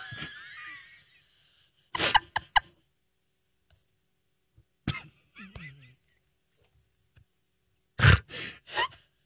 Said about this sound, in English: I'm sorry, it was my cottage cheese backing up on me. Calm down. You ever burped?